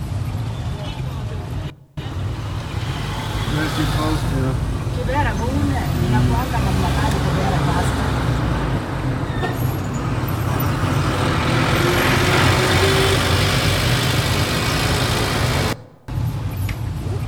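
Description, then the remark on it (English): Busy street traffic in a city of about 10 million people fills the scene: a steady, dense roar of cars and trucks with rumbling engines, plus indistinct voices mixed into the constant noise. “And this is kind of what traffic is like.”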